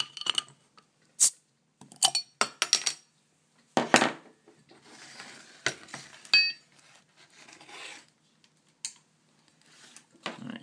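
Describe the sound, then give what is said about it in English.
A bottle of Gardner's Tipple beer being opened: a run of sharp glassy clicks and taps, a soft fizzing hiss, then a bright ringing metallic clink as the cap comes off, with a few faint taps after. “Here we go with opening it.”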